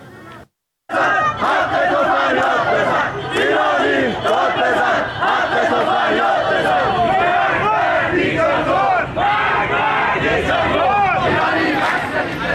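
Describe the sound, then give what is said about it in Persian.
A large crowd of protesters near Daneshjoo Park in Tehran shouts slogans such as "Death to the dictator" in loud, rhythmic unison. Voices rise and fall in repeated chants with scattered yells, continuous after a brief silent gap at the start. “در تهران نیز علاوه بر شعارهایی که پس از مسابقه فوتبال در ورزشگاه آزادی سر داده شد، تجمعاتی نیز در حوالی پارک دانشجو و محله‌های اطراف آن شکل گرفت که معترضان از جمله شعار می‌دادند: مرگ بر دیکتاتور و ایرانی داد بزن، حق تو فریاد بزن.”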